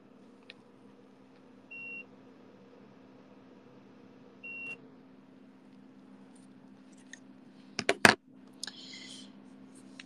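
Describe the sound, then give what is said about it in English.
A remote control gives two short, high electronic beeps a few seconds apart as it is used to turn off the AC, over a low steady hum, followed by a cluster of sharp button clicks and a brief clatter. “Sorry, I'm kind of dying here, but if you want me to suffer, which you probably do, I'll turn it off. God damn it. I hate this remote.”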